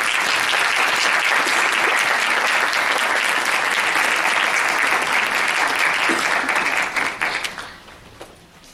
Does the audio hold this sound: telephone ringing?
no